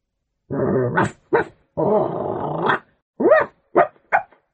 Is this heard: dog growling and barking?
yes